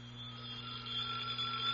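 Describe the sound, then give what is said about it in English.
A telephone rings in one steady, unbroken burst lasting the whole clip, a bright tonal trill with a low hum beneath it, fairly quiet, and no voices. “Let her ring, baby. Oh, I really ought to answer that.”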